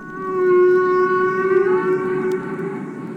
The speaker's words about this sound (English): Roger Payne, the biologist who produced the groundbreaking album … in 1970.